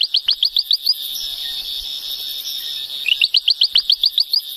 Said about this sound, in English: One of the species we came across was the ventriloquial frog.